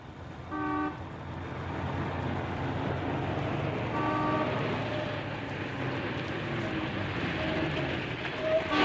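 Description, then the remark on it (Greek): A tour coach's horn honks in short tonal blasts, first near the start and again around the middle, over a steady rumbling engine and traffic noise as it approaches from a distance. “Ένα τουριστικό πούλμαν έρχεται κορνάροντας από μακριά.”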